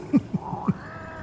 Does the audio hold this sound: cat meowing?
yes